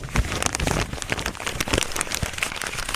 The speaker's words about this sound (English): it's one of my favorite radio things to do is crumple paper because it just sounds so crisp and pure